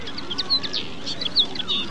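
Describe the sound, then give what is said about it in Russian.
A small songbird, a linnet, sings a quick, twittering song of bright chirps and short trills, with no voices present. “Это была птичка-коноплянка.”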